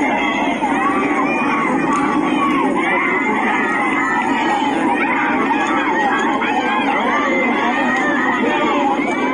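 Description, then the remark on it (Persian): Protesters in the town of Dashti, Iran, shout and chant slogans on Monday, having lit fires: a loud, dense roar of many voices that stays steady for the whole stretch, with raised cries rising over the mass of sound. “مردم معترض شهر دشتی روز و شامگاه دوشنبه پس از 40 حامد مولایی آتش افروخته و شعار سر دادند.”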